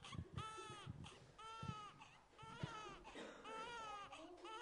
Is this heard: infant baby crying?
yes